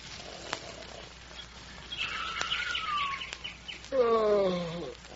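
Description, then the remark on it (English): A few birds twitter and chirp at dawn in scattered bursts over a soft background hiss, ending with a louder, longer call near the close. “A few birds are beginning to twitter.”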